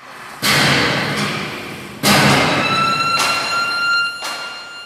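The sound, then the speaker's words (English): Heavy hammer blows strike steel at a factory on the industrial outskirts of Cape Town about five times at an uneven pace, each loud clang leaving a bright metallic ring that hangs on between hits over a steady industrial rumble. “Hammers pound steel and a hooter blares to end the workday at a factory on the industrial outskirts of Cape Town.”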